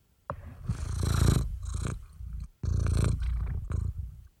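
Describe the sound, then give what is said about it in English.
A cat named Peg purrs in a steady, rumbling drone that swells and dips with each breath, continuing for several seconds with no one talking over it. “I hear her purring.”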